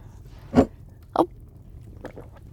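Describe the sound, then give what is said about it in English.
Two distinct gulps about half a second apart as someone swallows a drink, followed by a few faint, softer mouth sounds against a quiet background. “Oh, and you've swallowed it.”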